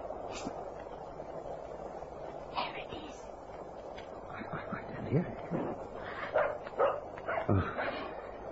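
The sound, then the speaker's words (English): A small dog barks and yips several times, the sharp high barks fairly faint and coming in an irregular cluster toward the end, over a steady hiss of background noise. “It's a dog. A little dog barking.”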